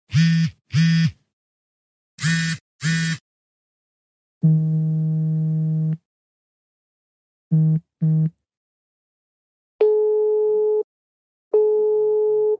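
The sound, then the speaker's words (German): A sequence of electronic telephone signal tones linked to making phone calls: paired short beeps, then longer steady tones, more quick double beeps and two final sustained tones at a different pitch, clear and loud, with silent gaps and no voices. “du hast uns da einen bestimmten Ton rund ums Telefonieren mitgebracht.”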